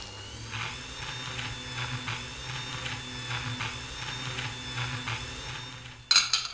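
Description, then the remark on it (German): A kitchen blender making strawberry milk runs with a steady motorized whir and a faint rhythmic pulsing throughout, then ends with a sudden sharp clatter near the end. No one speaks. “Lass mich bitte mal an den Mixer.”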